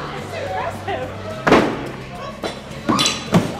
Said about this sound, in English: We better go throw some axes while we still can.